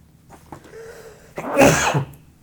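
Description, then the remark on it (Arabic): A single sneeze, preceded by a short wheezy intake of breath, then a sharp loud burst of air that fades quickly. “رحمك الله.”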